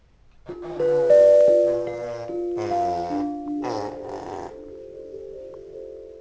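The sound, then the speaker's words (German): Elephants trumpeting in the distance in a series of loud, brassy blasts with shifting pitch, fading into a lower, sustained rumbling tone. No one speaks. “der Ferne hört man die Elefantentrompeten.”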